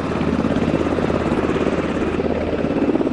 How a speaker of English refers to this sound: And there they go. That's two Blackhawks, Army helicopters, lifting off for a training run.